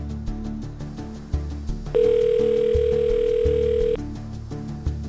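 A telephone number for Svenska Missionsförbundet in Stockholm is dialed quickly on a phone held to bare copper wires: a run of short clicks and beeps, then a steady, loud tone holding for about two seconds, all over a low, pulsing rhythmic background.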